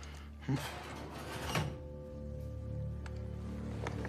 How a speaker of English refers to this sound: Jack opens the drawer where he put the gun and looks down